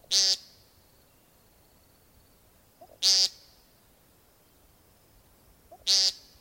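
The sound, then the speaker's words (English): Three short, nasal buzzing peent calls of a male American woodcock, part of its courtship display, evenly spaced about three seconds apart, each preceded by a faint soft note, against a quiet outdoor background. “If you guessed an American woodcock, you were right. The buzzing sound, called a peent, is part of the species' male courtship display, a springtime evening and night ritual occurring in moist woods and fields across the eastern United States”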